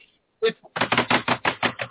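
Rapid, steady keyboard clatter: a quick run of sharp key strikes following a couple of isolated taps, fairly loud, with no voices over it.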